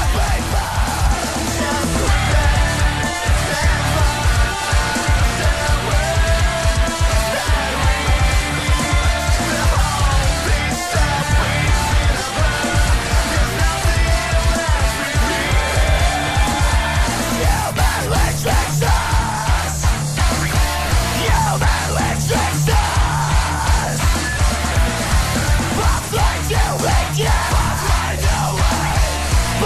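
A band's recorded song, sung in English, plays loudly and continuously, a dense full mix with steady pounding drums and a strained, shout-like vocal, growing busier with sharper hits in its second half.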